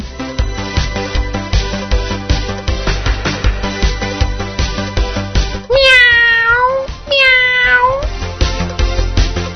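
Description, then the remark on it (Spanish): Two drawn-out, loud cat meows arrive back to back near the end over a busy, steady musical background with a regular beat. “¡Ay, nuestro gato, qué contento se pone cuando le hablamos de ratones!”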